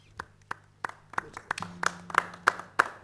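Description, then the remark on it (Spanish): Three people in a studio clap together after a song is sung and played, sparse and uneven, roughly ten sharp claps over three seconds with a low steady hum underneath, sounding like a small handful of hands rather than a crowd. “Los aplausos suenan como suenan tres aplausos, ¿no? Que somos tres los que estamos acá.”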